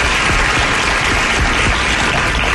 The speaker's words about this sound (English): Wow, crowd goes wild.